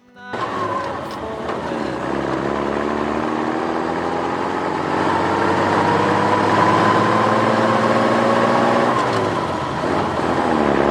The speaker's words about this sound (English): All right, so what I was looking for here is, you know, 10 hours of diesel truck idling. Here we go.